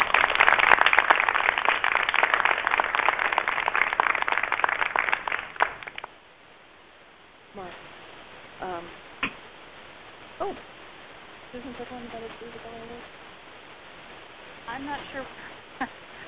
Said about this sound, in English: So let's give the Uzabelli Award winners a round of applause.